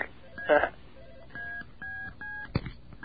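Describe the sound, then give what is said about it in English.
Four short, steady dual-pitch telephone keypad tones, the extra DTMF tones A, B, C and D as used with a silver box, play one after another with brief gaps, preceded by a quick burst of voice and a sharp click near the end. “Those are those four extra tones, A, B, C, D.”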